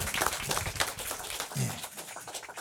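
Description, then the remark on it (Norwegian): A crowd applauds as author and radio theatre figure Nils Nordberg is welcomed to the stage, with dense, steady clapping that stays fairly even in loudness for a few seconds, with a brief low murmur of voices partway through. “en riktig god runde med applaus.”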